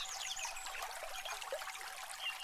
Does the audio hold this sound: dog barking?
no